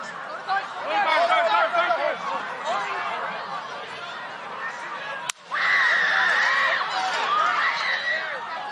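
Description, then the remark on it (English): A dense crowd at a rally in Butler, Pennsylvania yells and screams over overlapping voices, loud and sustained, with a brief sharp cut around the middle before the shouting surges again even louder. “Some good screaming in there.”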